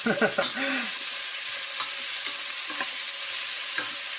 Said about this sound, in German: Während das jetzt brutzelt, ja?